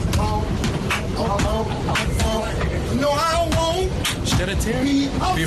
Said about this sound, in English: Ryan Seacrest posted on Instagram this guy who just started singing right in front of him